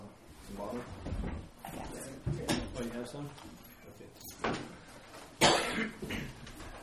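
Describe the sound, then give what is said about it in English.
A person coughs several times in sharp, harsh bursts spread across a few seconds, the loudest near the end, with faint voices and room noise murmuring underneath. “I have cough drops.”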